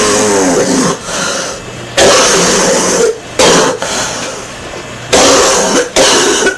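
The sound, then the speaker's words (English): A voice imitates a harsh, phlegmy smoker's cough: a string of loud, raspy hacking bursts with gravelly throat-clearing between them, repeated in uneven fits for several seconds. “I'd run after the kids, maybe cough on them like a horrible smoker.”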